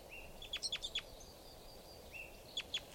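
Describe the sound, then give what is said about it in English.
A lone female bird calls in two bursts: a quick series of four or five sharp, high chirps, a pause, then two more, over a faint steady hiss. “Here's a lone female.”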